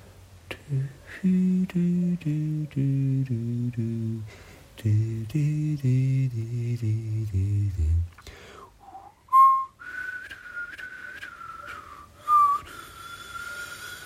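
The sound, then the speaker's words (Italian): A gentle tune is carried in a series of stepping notes, then a soft, high whistle holds a long, steady line alone, with no talking: the little bird Pinf whistling a song sweet as the wind, amid falling snow. “E Pinf fischiettava una canzone dolce come il vento.”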